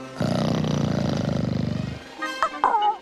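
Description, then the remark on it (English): Raja the tiger growls loudly on a palace balcony, a deep, throbbing rumble that holds steady for about two seconds, then a man's short startled exclamation follows. “Raja growls.”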